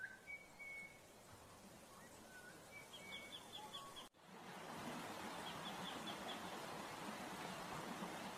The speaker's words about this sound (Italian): Anche a voi è sembrato di sentire dell'acqua che scorre? Avviciniamoci e ascoltiamo.